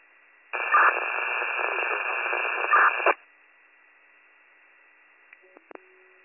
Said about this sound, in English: I didn't get your last transmission, it was all static.